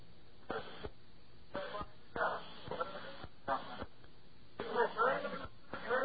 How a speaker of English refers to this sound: Okay, sounds like an argument is breaking out at the prison. Got the phone.